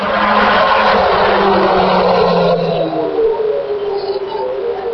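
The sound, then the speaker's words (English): A loud classic Formula One racing car, a Williams in blue, white and gold Rothmans livery, screams past, its tone sweeping lower midway through as it goes by, then fading slightly into a steady roar. “Here we have another classic Williams.”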